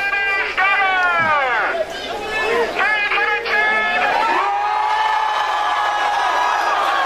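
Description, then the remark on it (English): A large crowd yells and whoops as people chase a wheel of cheese that a man with a bullhorn pushes down a hill, with many overlapping voices rising and falling in pitch under a steady roar for several seconds. “And he pushes the wheel of cheese down the hill, and then he gives the signal for everybody to run after it.”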